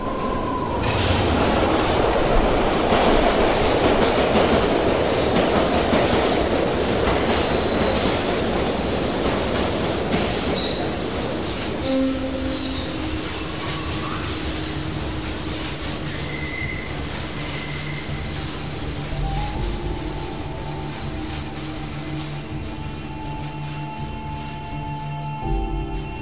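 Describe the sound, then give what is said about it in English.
A train bursts out of a tunnel and roars past, a heavy rumble with shrill, sustained wheel squeals; after several seconds the roar eases, leaving high metallic screeching and quieter rolling noise. No one speaks. “Just as the train is about to burst out of the tunnel, he steps up and pushes the other one right in front of the train.”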